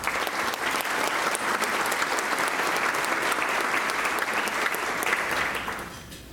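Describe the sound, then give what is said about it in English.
Steady applause from an audience, a dense patter of many hands clapping at an even level for several seconds before tapering off at the end. “If you could hold your applause, please, until I've introduced the entire table.”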